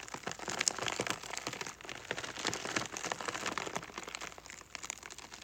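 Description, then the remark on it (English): Iceberg lettuce being pressed down and rolled on a table produces a dense, steady crackling patter much like rain on a tent, with irregular surges and no voices, moderately loud. “Just iceberg lettuce. So what I'm doing is I'm just pressing down and rolling the lettuce on the table.”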